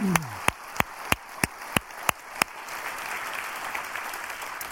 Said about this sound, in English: And would you just applaud, not Christian Assembly, we're not even really applauding ourselves. We're applauding the generosity of our God who provokes us to be generous back to Him. So we want to say thank you to God. Would you do that?